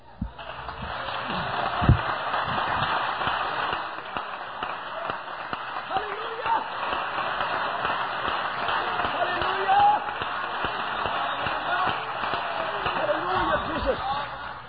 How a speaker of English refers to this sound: Let's clap again.